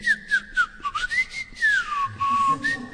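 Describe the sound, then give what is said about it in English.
A person whistles an imitation of a cuckoo's song: a clear, sustained, moderately loud whistled melody that rises and dips in pitch, with no talking. “Tenaka Pandit говорит, что красота кукушки в ее пении, она вот так поет, и на их языке это означает пора вкушать просадом.”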